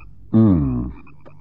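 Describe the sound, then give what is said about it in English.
A single loud, drawn-out frog croak from the marshes, with a buzzy, tonal quality, lasting about half a second, then fading into quiet background. “There must be millions of them in those marshes. The frogs.”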